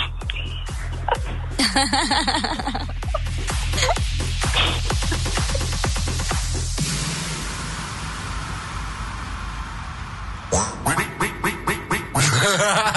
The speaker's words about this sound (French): Un petit peu de coin-coin.